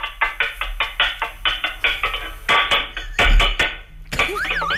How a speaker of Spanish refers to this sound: Coja usted en la cocina una cacerola y métamele con una cuchara, a ver si salta la alarma. Más fuerte, dele golpes.